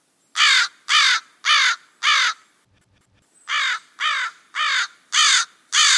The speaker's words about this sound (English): The northwestern crow may be a sub or identical species of the American crow, which is almost identical besides its larger body and less nasally but equally harsh caw. Let's have a quick listen to an American crow typical caw.